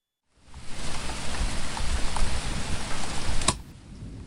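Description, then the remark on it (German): Steady rain pours down outside in a dense, hissing wash for about three seconds, with a sharp click near the end before the downpour abruptly falls away into quiet. “Ach, es regnet draußen.”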